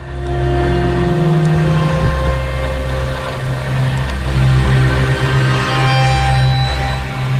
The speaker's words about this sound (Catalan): Aquest és el so que tenim ara mateix en directe a Tarragona. Un espectacle de drons obre una nova edició ara mateix del concurs de focs artificials. L'exhibició s'està fent a la Punta del Miracle,